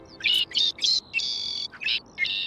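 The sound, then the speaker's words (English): A bird chirps in a quick series of bright, high-pitched notes on a sunny morning, with short pauses between phrases and one longer sustained trill, clear over faint background hiss. “Ah, another beautiful morning. The sun is shining. The birds are chirping.”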